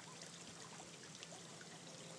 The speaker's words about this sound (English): Just thought I would do another recording from the swimming pool in the hotel I'm in Mauritius. It's nice and quiet today because there's no children around. And behind me there's the swimming pool and a little waterfall we should be able to hear.